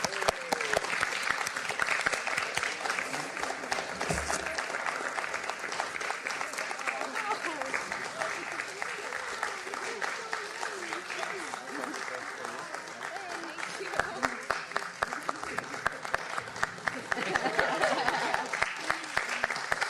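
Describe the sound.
A large audience at the ICG claps steadily for about twenty seconds for the Secretariat, a dense, sustained wash of applause, with a few voices faintly audible beneath it.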